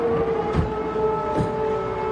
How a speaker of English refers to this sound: Then the sirens go off. And it is back in the basement for mothers and cats.